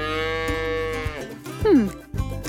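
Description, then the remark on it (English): A cow moos loudly, a long drawn-out low call that bends downward in pitch, followed by a shorter second moo. “It's so fresh, you'd think the cows delivered it themselves.”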